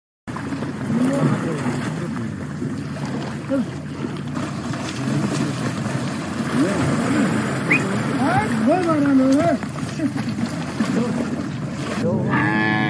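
water buffalo lowing

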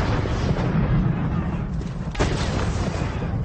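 cannon fire

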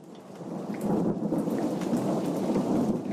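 thunderstorm with heavy rain

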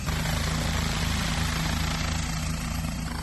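police helicopter taking off

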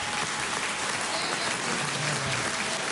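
applause in parliament

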